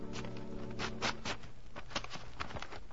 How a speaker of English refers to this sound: Why don't you open the envelope I put in Box 13?